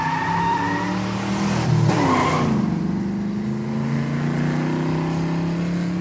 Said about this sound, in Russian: Из арки вылетела черная машина.